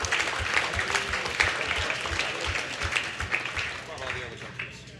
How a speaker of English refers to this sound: Real quick, can we get a show of hands for Canadians in the house? Yeah, that's what I thought. It's a lot of you guys. Round of applause for all the Canadians that drove out.